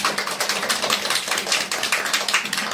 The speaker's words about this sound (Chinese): 所以我们就真的是感谢主，也我们也请大家为自己，为我们身边每个弟兄姊妹，我们鼓掌，好不好？